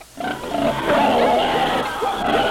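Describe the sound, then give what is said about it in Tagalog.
A pig grunts and oinks in a steady, rough stream of loud snorts lasting a couple of seconds, with no break in the noisy vocalizing. “It mga baboy, it mga ido, mga manok, binwat itampo.”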